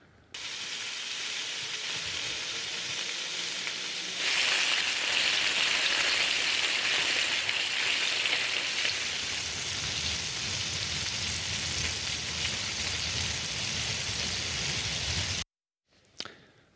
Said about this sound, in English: I'm going to play three videos of a rainy day, but I've replaced the audio of one of the videos, and instead of the sound of rain, I've added the sound of bacon frying.